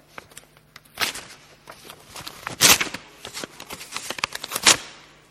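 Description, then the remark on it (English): Two sheets of paper glued together are ripped apart: crackling rips coming in a series of sharp bursts with a few louder tearing surges and no voices. “these two bits of paper that have been glued together have to be ripped apart.”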